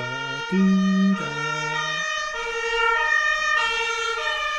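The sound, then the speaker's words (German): A fire engine siren wails loudly, its stepped two-tone pitch shifting as it passes, with no voices over it. “Nein, nur die Feuerwehr natürlich.”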